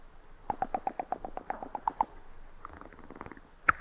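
Dice clatter in a quick run of sharp, hollow clicks that slow and scatter, then one louder click lands at the end. No one speaks.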